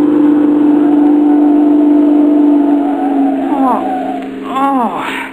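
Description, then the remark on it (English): A car engine drones loudly and steadily, then revs in a few quick swooping bursts of rising and falling pitch before easing off, as if braking. “while you were so busy wrestling with the steering wheel and gear shift”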